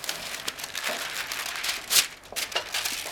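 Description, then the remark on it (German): Paper crinkles and rustles steadily while a purchase is wrapped in a small specialty shop, with a brighter crisp crackle near the middle; moderately quiet, no talking. “So, ich finde, dieses Papier passt auch ausgesprochen gut in der Farbe.”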